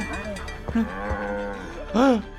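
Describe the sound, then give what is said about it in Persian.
A cow moos in a low, drawn-out call that swells into a louder, rising bellow near the end, with some faint background noise underneath. “وای پس واقعا گاوم میدوزدن درست مثل اپیزود ده سیزن 4.”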